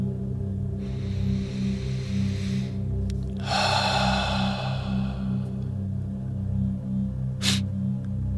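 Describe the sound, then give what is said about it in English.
Slow, deliberate breathing exercises by a person sitting on a bed: a long, soft inhale followed by a louder, drawn-out exhale over a steady low hum, with a brief sharp click near the end. “I slid the door, then sat on my bed, working on breathing exercises.”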